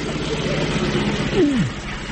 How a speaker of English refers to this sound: 5 weeks of travel saw the lorries well on their way.